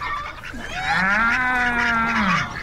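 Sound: cow mooing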